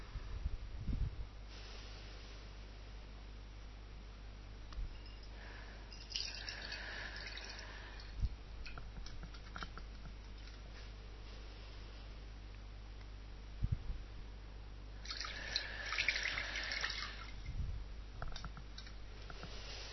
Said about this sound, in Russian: Вы помните, сначала смываем правую руку, потом левую, так 3 раза. Каждый раз на выдохе и что-то выпускаем, что-то очищаем, отпускаем.